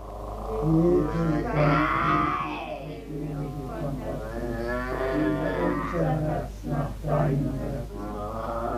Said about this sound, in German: Von der jungen Frau ist fast nur ein unartikuliertes Knurren, unterbrochen durch Schimpfen, zu hören. Ein historisches Tondokument, das auch heute noch unter die Haut geht.